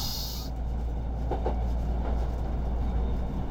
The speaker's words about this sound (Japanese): さて、今日の散策の締めは東急世田谷線への乗車です。なかなか乗り心地の良い2両編成の電車。さすがもともと路面電車だったという世田谷線、バスみたいでした。車両も新しく、新鮮さも感じることができました。